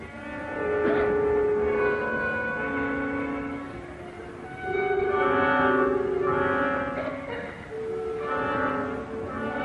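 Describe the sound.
Instruments mimic snoring with slow, swelling, groaning tones that rise and fall in repeated breath-like phrases, fairly loud and steady, with no talking.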